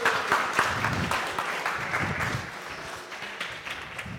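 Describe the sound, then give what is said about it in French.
An audience applauds the actors after a performed scene, a steady dense wash of many hands clapping at once with a few sharper individual claps poking through, holding fairly even loudness throughout. “Merci, on peut les applaudir très fort !”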